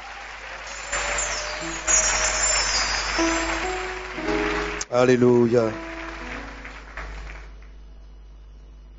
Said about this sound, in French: Est-ce qu'on peut encore donner gloire à notre Seigneur par des acclamations?